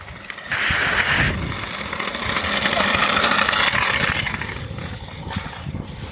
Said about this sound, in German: Das war ein Kind auf dem Roller.